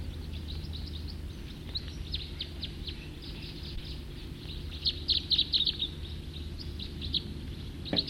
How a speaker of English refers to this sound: Now more of the birds are calling.